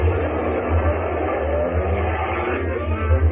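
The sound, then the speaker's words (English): A truck engine roars steadily with a deep low rumble and a broad rushing noise as the truck, with several men aboard, speeds off down a street, loud and continuous with no voices. “They jumped into a truck that was standing outside. A few other men boarded the back of the truck. They sped off down the street.”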